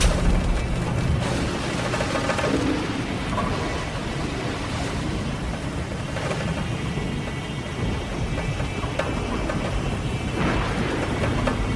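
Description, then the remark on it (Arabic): A storm at sea with strong winds around a sailing ship roars steadily with dense, hissing rain, and low rumbling swells underneath it at times. The sound stays loud and unbroken throughout, and no voices are heard. “العاصفة يا مولاي دفعت 20 سفينة إلى المرسى، وقد استولينا عليها جميعا كما أمرت.”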